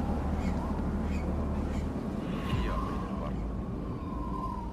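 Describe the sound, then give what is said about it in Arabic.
A houbara bustard gives a few harsh, croaking calls, with a drawn-out wavering note in the middle, set against a constant low rumble of background noise. “الحبارة.”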